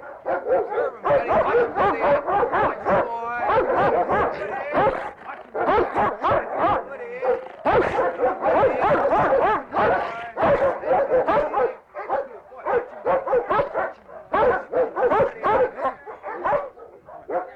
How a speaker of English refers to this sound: This is Pilo here, my dog again.